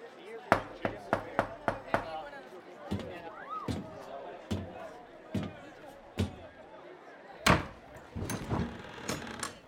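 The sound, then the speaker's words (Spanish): Knocking on a caravan door: a quick burst of five sharp raps, then slower, heavier single knocks spaced out, with faint voices murmuring in between. “¡Tócale la puerta!”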